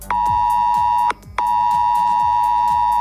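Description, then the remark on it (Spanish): A loud, piercing ES Alert emergency alert tone from mobile phones in Cuenca blares steadily, warning residents of the rising Júcar river, cutting out once for a brief moment before resuming, with a rapid rhythmic buzzing pulsing underneath throughout. “Además, los vecinos de Cuenca acaban de escuchar esto en sus teléfonos móviles.”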